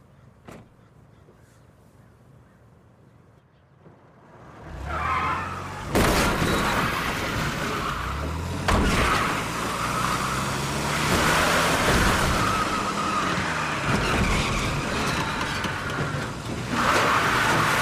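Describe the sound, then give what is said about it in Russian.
After a few quiet seconds, a car engine roars to life and accelerates hard as the car is driven away, its pitch climbing through several gear changes, loud with a few sharp bursts along the way. “Я уберу машину.”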